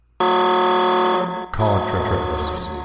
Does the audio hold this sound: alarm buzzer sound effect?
yes